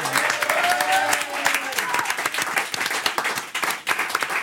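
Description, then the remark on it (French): A studio audience applauds steadily for guest Riyad Sattou, author and filmmaker of Les Cahiers d'Esther, dense overlapping claps forming a loud wash of sound, with some tonal sounds and faint voices mixed in early on before the clapping thins slightly toward the end. “Applaudissements pour Riyad Sattou.”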